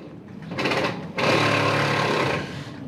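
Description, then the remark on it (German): A power drill whirs in two bursts, a short rev followed by a longer steady run of about a second, loud with a high motor whine, as a stall is being set up for the Christmas market on Waisenhausplatz in Bern, Switzerland. “Eine Bohrmaschine liegt auf der halbfertigen Auslage.”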